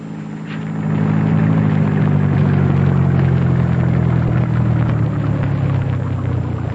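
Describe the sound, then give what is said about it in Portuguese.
A car engine rumbles as the vehicle rolls slowly in through a gate, a loud, steady low drone whose pitch sags slightly toward the end, with no voices. “Pode entrar com o carro”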